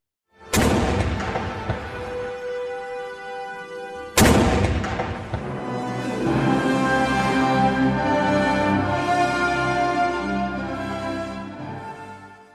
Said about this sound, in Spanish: Ahí estuvo el presidente de Egipto, Abdel Fattah al-Sisi, y hubo cañonazos.